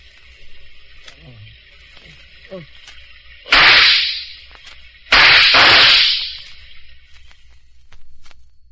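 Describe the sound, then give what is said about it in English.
Two loud gunshots in a Gangbusters radio drama, fired as a long-established signal between neighbors of a remote community, about a second and a half apart, each a sharp crack followed by a long, fading roar, set against a faint steady hum with a few small sounds before them. “Those shots, were a long-established signal between the neighbors of that remote community.”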